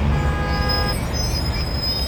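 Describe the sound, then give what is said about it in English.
Heavy traffic rumbles steadily in a jam in the city of Surrey as a horn blares for about a second, with a thin high hiss of air brakes lingering over the idling engines. “The sounds of construction are as common as the sounds of traffic jams.”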